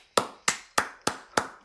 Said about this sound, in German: Jetzt bitte aufhören zu klatschen.